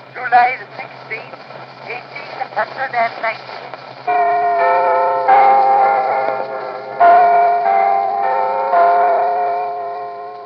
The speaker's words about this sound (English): But in terms of sounds from the environment, there's a recording from 1890 of the chiming of Big Ben in London.